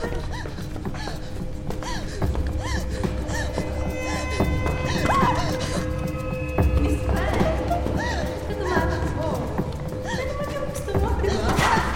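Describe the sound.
Quick, rhythmic footsteps thud as someone runs up a flight of stairs, the rapid knocking steps mixed with voices talking over a busy background.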